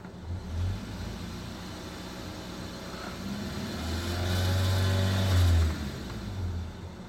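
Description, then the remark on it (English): A car engine idles with a low rumble, then revs up around the middle, its pitch and loudness rising briefly before easing back down to idle. No voices. “And when we give the car a bit of a rev,”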